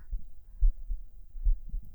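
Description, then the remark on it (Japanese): A muffled heartbeat heard from the chest thumps slightly fast in deep, soft double pulses, repeating at a steady pace with no voices over it. “ふん、心音がやや早いのはご愛嬌にゃ。”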